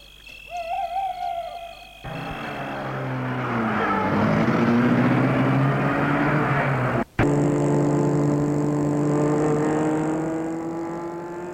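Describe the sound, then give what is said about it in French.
After a couple of seconds of quiet with a faint tonal call, a man starts a car, its engine starting up loudly and revving higher as it pulls away, settling into a steady driving rumble. “Il ouvre la portière arrière et ils entrent. L'homme met la voiture en route.”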